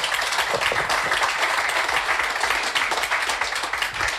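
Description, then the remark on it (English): Steady audience applause fills the whole stretch, a dense crackle of many hands clapping at an even, fairly loud level without letting up. “I think that deserves a round of applause on that alone.”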